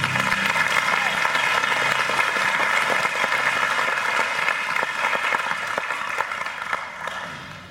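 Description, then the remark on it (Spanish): A church audience applauds its fellow members in a sustained, dense burst of clapping that holds steady and loud for several seconds, then gradually thins and fades toward the end. “Un aplauso a nuestros hermanos.”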